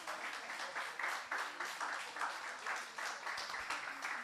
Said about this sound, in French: Prends un temps juste pour lui dire merci, tu peux l'applaudir aussi. Merci.